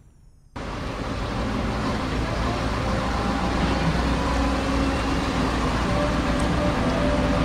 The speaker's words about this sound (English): We're outside the St. Louis Composting headquarters. We've got all kinds of trucks and everything else going on.